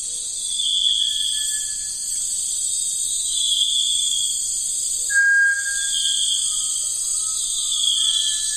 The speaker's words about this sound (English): Nature can actually be quite noisy, as this will demonstrate from the Amazon.